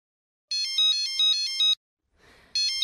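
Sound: mobile phone ringtone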